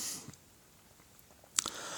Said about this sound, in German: Oh, jetzt habe ich gar nichts zu machen. Das kann ich gar nicht rausschneiden, jetzt die Huster heute. Musste mit leben.